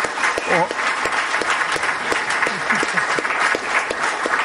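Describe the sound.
An audience applauds steadily, a dense, even wash of many hands clapping at full volume throughout, with a few brief voice fragments poking through the noise.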